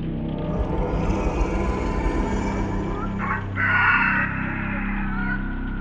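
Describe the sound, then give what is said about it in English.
A harpy at its nest gives a gentle, drawn-out cooing call, warbling steadily over a low rumbling drone and swelling slightly louder for a moment before easing off again. “This was a gentler, almost cooing call.”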